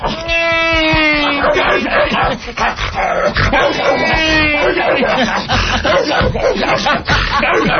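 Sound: dogs barking and yipping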